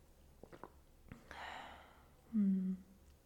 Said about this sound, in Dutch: Dus, even een slokje thee.